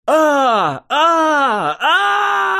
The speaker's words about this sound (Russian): Вопил несчастный рейнджер, с ног до головы охваченный черным дымом.